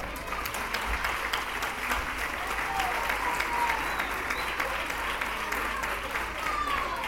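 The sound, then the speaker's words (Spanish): Sustained applause from an audience at a small music show put on by a children's music school, a dense steady wash of many hands clapping at even loudness throughout, with a few faint voices mixed in. “Entonces, antes de nada, por favor, les pido un aplauso para ellos por eso.”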